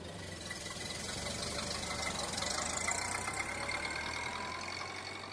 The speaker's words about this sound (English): And the car dusted away down the road.